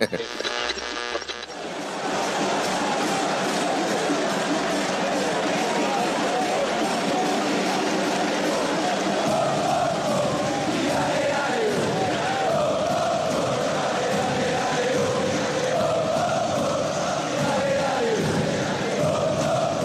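A large stadium crowd of Boca Juniors football fans chants a parody song in unison, loud and sustained, the massed voices echoing with a steady rhythmic swell for the whole stretch.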